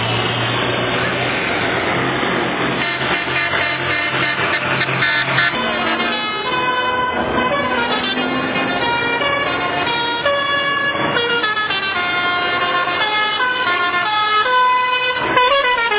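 A parade of tractors rumbles past with loud engine noise while several horns honk in overlapping, sustained blasts, some rising and falling, continuous throughout.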